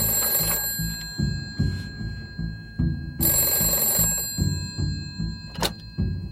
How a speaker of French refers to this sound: la sonnerie de téléphone retentit de façon incessante chez les Bergerons